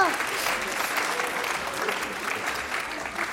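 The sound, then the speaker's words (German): A crowd claps steadily for a few seconds, a dense, continuous patter of many hands at moderate volume, with a voice briefly audible over the applause. “Sehr gut, ein Applaus. Bravo!”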